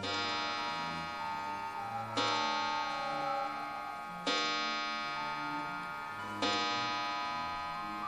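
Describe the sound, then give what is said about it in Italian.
An English grandfather clock in the entrance hall of a home strikes four times, evenly spaced about two seconds apart, each rich, resonant chime ringing on and overlapping the next, with a soft steady ticking underneath and no voices. “Mentre attraverso l'ingresso sento la pendola inglese battere 5 rintocchi.”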